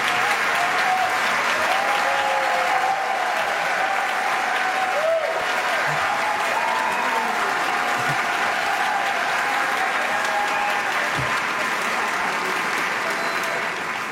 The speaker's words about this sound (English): Could we give another round of applause to Paul Fanlon and to the whole team here at Idea Fest at the Capital Times here in Shannon Hall?